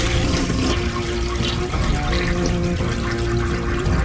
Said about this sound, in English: See, because it's a long flush.